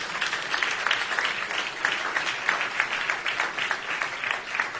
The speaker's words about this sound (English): Clap for Jesus.